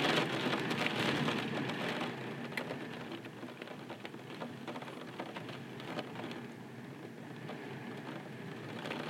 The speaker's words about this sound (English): Welcome the rain.